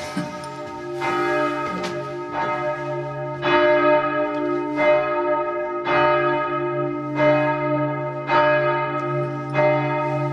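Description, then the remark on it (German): Large church bells up in one of the two towers of a large church ring loudly in a steady, overlapping peal, each stroke striking about every second and a half while deep hum tones linger beneath. No voices are present. “Wir brauchen mehr als 5 Minuten, bis wir oben bei den Glocken angekommen sind. Und diese Glocken klingen ganz besonders.”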